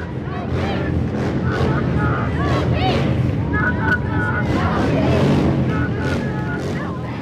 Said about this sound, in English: The bikers drive by slowly, coming in waves. Some even take multiple trips.